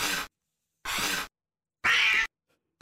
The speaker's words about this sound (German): Und dann gibt es noch Laute mit gespanntem, offenem Maul wie zum Beispiel Fauchen.